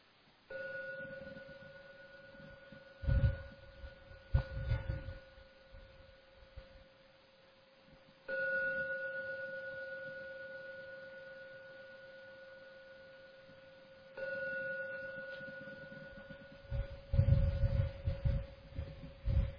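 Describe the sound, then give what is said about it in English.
A meditation gong is struck three times to end the meditation, each stroke a steady, mid-pitched ringing tone that hums on and slowly fades, with a few soft low thumps in between and no talking. “Please pay attention to every ringing of the gong.”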